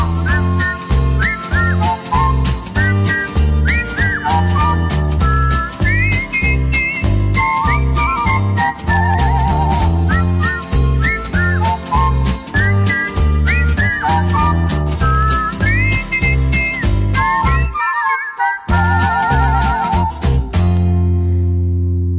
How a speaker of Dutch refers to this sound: Nu fluiten ze samen en ieder die het hoort, die zegt nooit voordien heb ik dat gehoord. Luister maar.